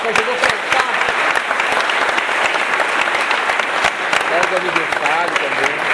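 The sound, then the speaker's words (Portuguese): An audience breaks into steady, loud applause for a supporter from Ação Educativa, many hands clapping in a dense, continuous patter for several seconds, with a faint voice or two mixed into the clapping. “da Ação Educativa, eu queria até pedir uma salva de palmas a ele.”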